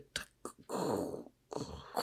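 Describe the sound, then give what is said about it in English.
A voice imitates footsteps walking on crunchy white snow: two short crackly bursts, then two longer gritty crunches, moderately loud and rough, with no other talking. “That's very good snow sound.”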